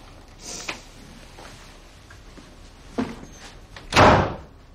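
A woman slams a door shut loudly near the end, preceded by a couple of softer knocks and thuds from handling it, with no voices.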